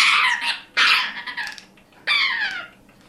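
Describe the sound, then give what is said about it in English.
A gray parrot from Florida, wrapped in a towel for its annual exam at a bird and exotic animal clinic in Seattle, gives harsh, raspy growling distress noises in three loud bursts, each rough and grating, separated by short pauses, with no talking over them. “Poor gray parrot. That's not the noises we were hoping you would make.”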